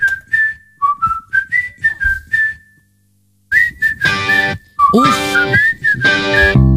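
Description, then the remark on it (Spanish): A bright whistled melody in short, bouncy phrases, first nearly alone, then joined by a full pop band with drums and bass as the tune carries on loudly over the music. “Hay un montón de canciones que incluyen silbidos.”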